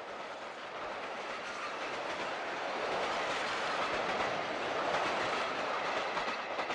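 A train rolls steadily along the rails, a dense, even rumble with a faint rhythmic clatter of wheels, swelling slightly louder after the first few seconds and holding steady, with no voices.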